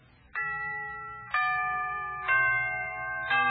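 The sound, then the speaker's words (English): A phrase of Westminster chimes marking the third quarter of the hour: four resonant bell notes at different pitches, struck about a second apart, each ringing on and overlapping the next, clear with no voices. “Can you tell what part of the hour it is from the tolling of the characteristic phrase of the Westminster chimes that we're now going to listen to?”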